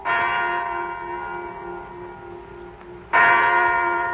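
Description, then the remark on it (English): A large clock bell strikes at 9 o'clock in the morning, twice, each deep, resonant stroke ringing out with rich overtones and slowly fading before the next loud chime begins; no voices. “A big clock jangled its news that the time was 9 o'clock in the morning.”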